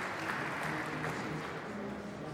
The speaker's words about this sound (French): dans le vestiaire que j'ai voulu mettre les gens un peu dans l'ambiance d'un spectacle et de les surprendre avec des sons d'applaudissements. De la plus petite à la plus grande foule. Alors, quand vous traversez le vestiaire, la vedette, c'est vous.